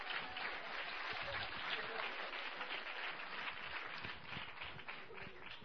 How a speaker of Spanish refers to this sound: Gracias, un aplauso para las representaciones.